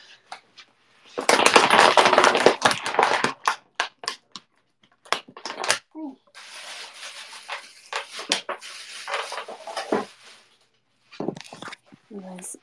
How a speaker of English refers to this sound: I was crushing the water bottle, empty water bottle.